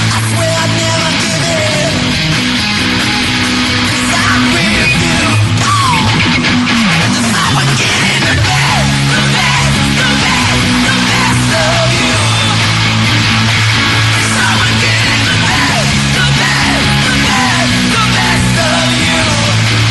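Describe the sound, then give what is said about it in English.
A loud live rock performance by a singer covering another musician's songs in a medley, with heavy, distorted guitar and screamed vocals, thick and continuous for the whole stretch, with sustained low chords driving underneath. “One, the boy can play guitar, and two, he can scream like a girl, can he?”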